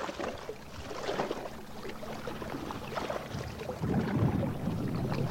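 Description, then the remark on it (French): Gentle lake water laps and splashes steadily around a boat on a lake in New Hampshire in 1978, with soft irregular sloshes and a low rumbling undertone, swelling slightly louder near the end. No one speaks. “In the background, you can hear the waves.”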